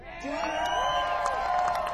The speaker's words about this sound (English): Let's hear you cheer.